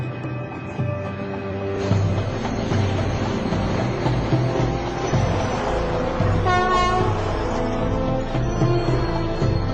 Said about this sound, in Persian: تو ایستگاه بعدی وقتی قطار وایساد پیاده شو